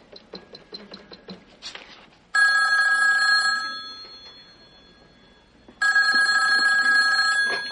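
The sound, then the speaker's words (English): A telephone bell rings loudly in two long, jangling bursts separated by a short pause, after a quick run of light mechanical clicks. No one speaks. “Who's going to help me figure out this phone?”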